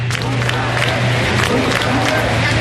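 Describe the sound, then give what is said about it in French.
A large crowd of Catalans shouts loudly and continuously, a dense roar of many voices with repeated rhythmic surges, like chanting, over a low steady hum. “On entend ces cris des Catalans.”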